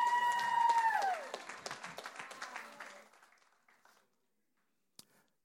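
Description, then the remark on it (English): A church audience breaks into applause, many hands clapping together with a few cheers over a sustained tone, welcoming a man back to church, then the clapping thins out and fades, ending with a single late clap. “Give him a big hand clap, man.”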